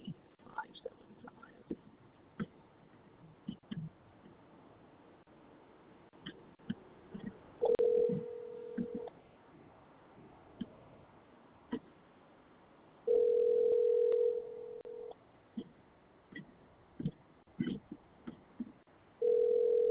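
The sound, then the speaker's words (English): A telephone dial tone sounds in steady, even bursts, about three times, loud, with soft clicks and faint dialing-like taps between them, as a phone call is placed to get an address. “Okay, let me try getting them and getting an address.”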